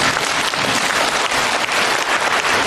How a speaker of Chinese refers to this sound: 还鼓掌吗？